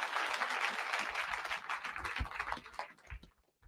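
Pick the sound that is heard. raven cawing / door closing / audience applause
audience applause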